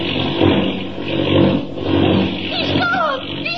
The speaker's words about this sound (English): The plane took a sudden, sickening plunge, and Clark Kent vanished. Listen.